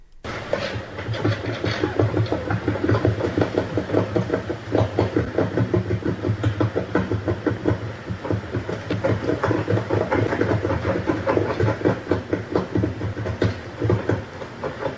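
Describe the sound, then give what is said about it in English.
Porcupines chewing on an old wooden cabin, from a Xeno-canto recording: a steady, rapid run of scraping, crunching bites from their teeth that stays fairly loud and even for the whole stretch, with no voices. “The notes on that one on Xenocanto, it said that it was porcupine or porcupines chewing on an old wooden cabin.”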